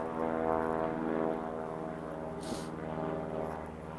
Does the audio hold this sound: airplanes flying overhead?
yes